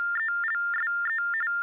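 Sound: phone ringing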